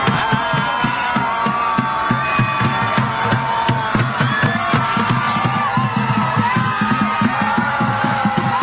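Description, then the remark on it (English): A large crowd of protesters, gathered in a major city on the one-year anniversary of Donald Trump winning the 2016 election, yells and screams helplessly into the sky in a sustained, loud roar, with overlapping shouts and whoops rising above a dense wash of voices and a steady low pulsing underneath. “They literally gathered into zombie hordes in major cities to, quote, scream helplessly into the sky.”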